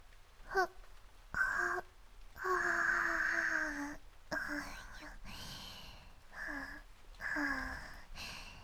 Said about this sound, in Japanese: あくびが出ちゃいます。